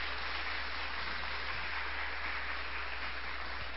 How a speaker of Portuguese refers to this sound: Aplauda ao Senhor aí, por gentileza.